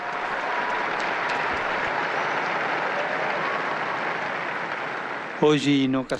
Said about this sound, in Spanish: Un aplauso a los nueve, a los nuevos beatos.